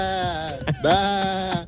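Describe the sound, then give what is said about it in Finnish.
A person imitates a sheep, letting out a few wavering, nasal bleats in quick succession, fairly loud, with no other talking. “Hei, sekunnin lammas, mikä tää on?”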